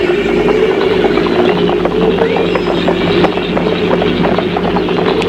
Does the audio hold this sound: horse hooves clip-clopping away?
yes